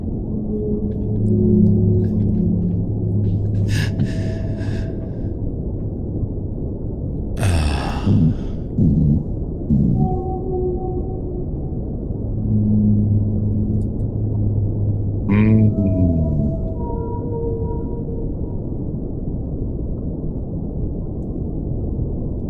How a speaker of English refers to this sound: You were trying to harmonize with the whale at one point, and that kind of threw me off.